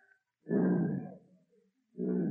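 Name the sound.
imitated lion roar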